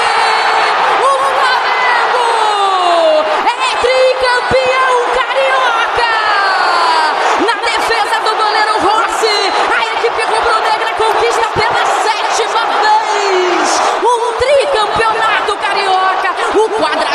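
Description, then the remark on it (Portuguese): A stadium crowd of Flamengo supporters cheers loudly and without pause after goalkeeper Rossi saves Otávio's penalty, sealing a 5-4 shootout win over Fluminense for the Carioca title; a dense roar full of overlapping shouts and whoops that rises and falls but never drops away. “Rossi festejado pelos jogadores, faz a festa, a torcida rubro-negra deu onda pra galera do Mengão.”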